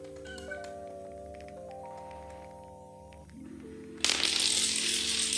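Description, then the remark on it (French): A Rube Goldberg chain-reaction machine clicks and rattles along over steady, stepping tones, then erupts into a loud clatter of rolling, tumbling objects near the end. No one speaks. “Une machine de Goldberg, c'est comme ça que ça s'appelle?”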